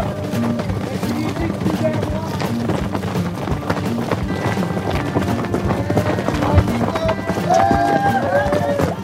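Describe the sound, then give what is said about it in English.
Rapid hoofbeats of about a dozen horses drum along steadily at the start of a horse and runner race in a barren desert, growing slightly louder as they near, mixed with wind buffeting and scattered voices calling out. “So all the runners get down into this wash first, come up into this barren desert, and pretty quick, on your right, come the horses.”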